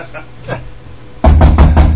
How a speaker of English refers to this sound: Yeah, he's knocking on the machine that he just threw some RAM in there, so we'll put a better Skype version in there.